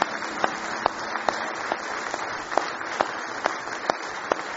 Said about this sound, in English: Let's give him one more hand clap of praise if you love him.